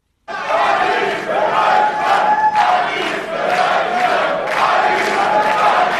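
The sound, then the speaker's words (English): A large AfD rally crowd in Germany, waving German flags, chants "Alice" for Alice Weidel in loud, rhythmic unison, the repeated shouts rising in steady waves, dense throughout. “The crowd waving their German flags, Alice for Germany, Alice, Alice, Alice, they're shouting, like a rock star”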